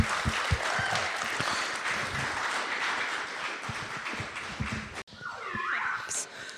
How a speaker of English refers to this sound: Can we acknowledge them with the hand clap of gratitude?